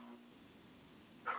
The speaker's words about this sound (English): Listen to that. Check that out. See? Cat with a crazy deep meow.